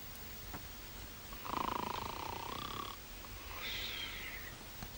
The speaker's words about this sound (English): At the bottom of the steps, another prison guard snores as he leans backwards against a wall in a chair with a newspaper on his knee.